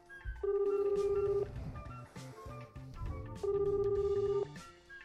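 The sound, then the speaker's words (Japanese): A phone ringback tone on an outgoing call placed by a radio host for a children's phone-advice segment: two long, steady, pulsing electronic bursts about a second each, separated by a pause, with a low rumble of background noise and no speech. “あ、鳴ってる、はい”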